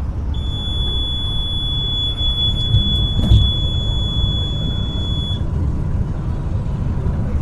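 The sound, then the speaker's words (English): An international bus's speeding alarm, which sounds every time the driver goes over the speed limit, sounds a steady, piercing high-pitched tone for about five seconds, then cuts off, over the constant low rumble of the moving bus on a night trip from Mexico to Chicago. No one speaks. “Buses inside Mexico are equipped with alarms that sound every time the driver goes over the speed limit.”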